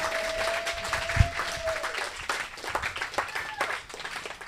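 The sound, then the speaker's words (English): An audience applauds Are You Serious? steadily, a dense patter of many hands clapping that stays fairly even throughout, with a faint sustained whistle-like tone in the first couple of seconds. “A big applause for Are You Serious?”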